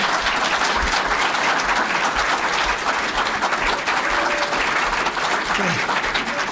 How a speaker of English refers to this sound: Okay, applause for the candidates.